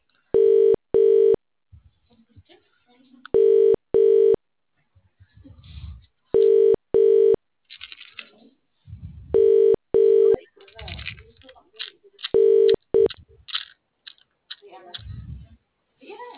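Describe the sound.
A phone's ringback tone repeats five times, each a loud double ring roughly every three seconds, with faint muffled voices and rustling in the gaps between rings.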